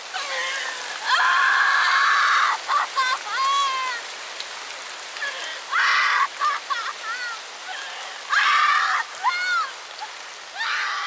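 Heavy rain pours steadily throughout, a dense hiss filling the background, while loud, harsh honking cries burst out repeatedly over it in short, strained bursts.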